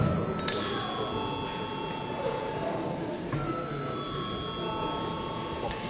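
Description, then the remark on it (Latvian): A parliament chamber bell rings before a vote on declaring a bill urgent, with a steady, sustained metallic tone over a low murmur, restarting once partway through. “Lūdzu zvanu.”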